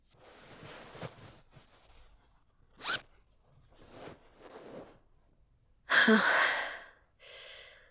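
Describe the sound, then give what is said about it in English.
A clothing zipper is unzipped, a short rasp followed later by a louder, longer zipping pull and a brief final one, with soft breathy noises between and no talking. “Don't look at your open zipper.”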